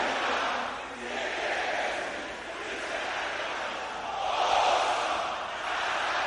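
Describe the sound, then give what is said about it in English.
The men of an audience, the brothers, shout a prayer together louder than the sisters, a dense, loud roar of overlapping voices that swells and surges for several seconds without pause. “Brothers, shout it louder than the sisters.”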